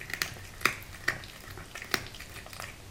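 A tomcat chewing a mouse it caught, eating it in the house, with the mouse's small bones cracking: sharp, crisp crunches at an irregular pace, a few louder snaps among softer wet chewing, over a steady background hiss and no voices. Recorded on a mobile phone.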